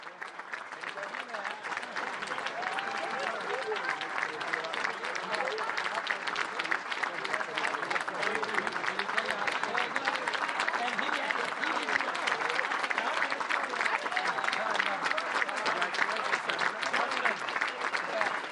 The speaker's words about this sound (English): Governor Pattison is getting ready to speak. I think he's enjoying all this applause.